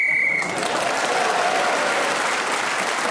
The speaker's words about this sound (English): So Julian Clary was then speaking as the whistle went, gained that extra point, and has taken the lead at the end of that round.